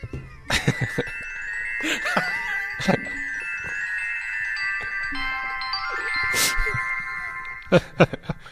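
A unicorn diary with a combination lock plays a bright electronic melody when the right code is entered, with sustained tonal notes and a few sharp clicks, loud, with no talking over it.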